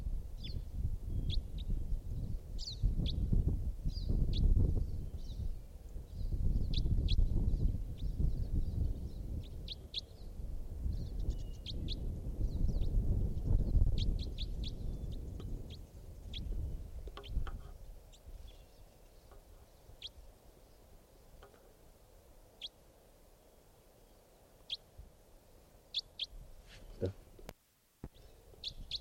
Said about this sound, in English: It's a type wild bird in the distance. Wild bird.